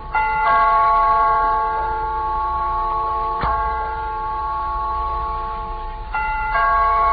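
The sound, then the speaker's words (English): An electric doorbell rings loudly and insistently as a caller keeps pressing it, its steady metallic tone held almost continuously with a few brief breaks and sharp re-presses, with no voices. “What is there about a ringing doorbell that makes you think of something like that?”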